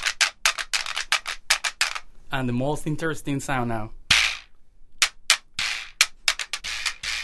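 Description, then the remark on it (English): Sharp, dry clacks from a dried donkey jawbone played by strumming a stick across its teeth and whacking the jaw with the wrist to make it vibrate, in quick irregular bursts. A voice speaks briefly in the middle, followed by a louder rattling burst. “So you're strumming the stick across the teeth, and then you kind of whack the jaw with your wrist to get that vibrate-y sound.”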